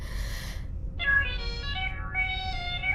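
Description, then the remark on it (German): A digital bagpipe being practised plays a reedy, nasal melody with swooping, gliding pitch over a steady drone, continuous for about two seconds after a brief burst of hiss. “Ich übe lieber Digi-Dudelsack.”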